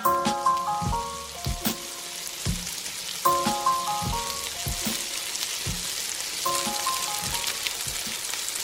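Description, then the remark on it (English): Loud, steady sizzling of food in a hot frying pan, a dense crackling hiss with sharp pops, joined by bright repeating melodic tones over it; no one speaks. “Frying pan hot, frying pan hot.”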